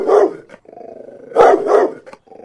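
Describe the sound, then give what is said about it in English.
A large dog barks loudly, peaking at about 82 decibels, in two heavy deep bursts separated by a low, rumbling growl, with a short final snarl at the end. “Not the small Aspen dog we're used to seeing”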